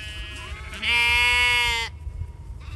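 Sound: sheep bleating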